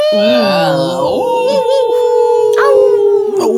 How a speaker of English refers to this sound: Those are wolves in the background. I just told you about it earlier. Tiberian wolves.